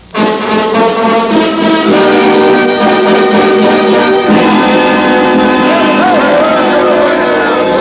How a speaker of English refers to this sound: Down to the jail. There's a mob down there yelling for blood.